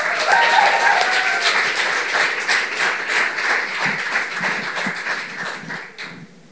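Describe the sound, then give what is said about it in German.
An audience at the U20 Poetry Slam in the Louise the Cult Factory applauds the first poet of the second half of the competition to the microphone, with dense, steady clapping that stays loud for several seconds. A few cheers or whoops rise briefly near the start, and the applause tapers off at the end. “Klatscht die erste Poetin des Wettbewerbs der zweiten Hälfte ans Mikrofon.”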